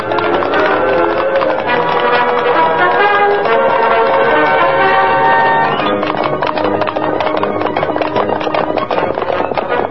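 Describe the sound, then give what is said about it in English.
A loud, dense rumble of many galloping hooves of a cattle stampede, pounding continuously with clattering beats that grow sharper and more distinct toward the end, with no voices. “They're stampeding now.”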